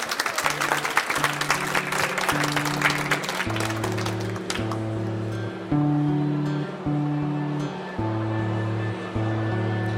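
Dense audience applause for a musical act after an acoustic performance fills the first four seconds, then fades away as sustained low instrumental tones carry on, steady held notes shifting in pitch every second or so.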